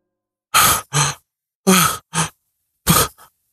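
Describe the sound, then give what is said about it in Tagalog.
Heavy, ragged panting of someone waking from a nightmare, sweating: three pairs of loud, breathy gasps, each a sharp inhale and exhale, separated by short pauses, with no talking. “Malakas kong pagsigaw kasabay ang pagbangon ng hinihingal at pinapawisan.”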